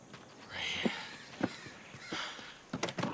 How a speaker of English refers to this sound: DL tries the door, but it's locked.